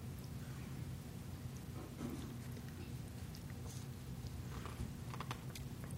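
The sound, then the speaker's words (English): Soft, irregular crinkling and rustling of a lot of paper being handled as a person gets tangled up in it, with scattered crisp crackles over a steady low hum; fairly quiet and continuous, no voices. “Got myself tangled up in a lot of paper.”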